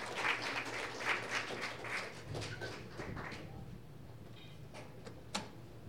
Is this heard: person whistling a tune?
no